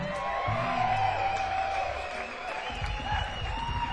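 A crowd gives one more round of applause as a man walks around, continuous dense clapping filling the whole stretch with scattered whoops and shouts rising above it, steady and fairly loud throughout.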